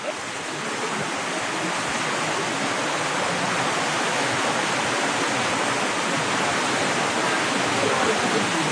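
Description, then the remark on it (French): A dense, steady roar of heavy rain hammers the metal roof of a small sheet-metal shack, a continuous hiss-like wash of sound with no pauses and no voices. “Ça redouble la pluie. En plus, comme on est sous une petite baraque en tôle, ça prend d'autant plus d'écho.”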